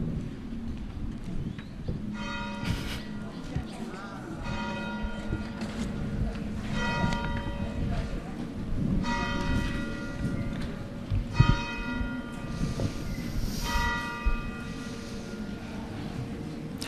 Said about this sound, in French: Mais on attend encore un tout petit peu, car ici, à LUSAS, je ne sais pas si vous le savez, mais les cloches, elles sonnent toujours deux fois.